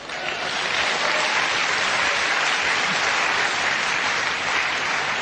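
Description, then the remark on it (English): Loud, sustained applause from a large audience, a dense steady wash of many hands clapping at once for several seconds with no voices standing out. “Clap.”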